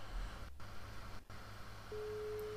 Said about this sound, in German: Okay, es klingelt.